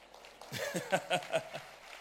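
A brief, sparse patter of handclaps from two people, about half a dozen quick claps over roughly a second, fairly quiet and then fading into silence.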